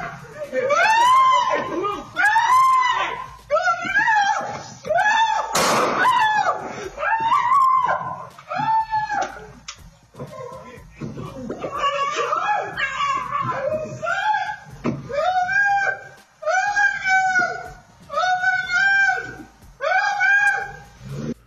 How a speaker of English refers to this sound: We had the audio yesterday of the dog Walker, who was screaming out as the dogs were being taken and as he was shot.